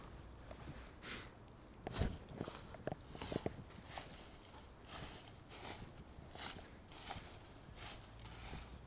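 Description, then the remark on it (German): Steady footsteps crunch along a dirt trail at an even walking pace, moderately quiet, with a faint outdoor background and no one speaking; the walker follows a beaten trail beside a tree with hearts on it. “Folge dem Trampelpfad und schaue, wo er dich hinführt.”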